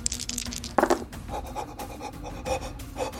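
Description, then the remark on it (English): A person imitates monkey noises with a loud, sudden hooting burst followed by a run of short, breathy panting calls at a quicker rhythm. “Oh, monkey noises.”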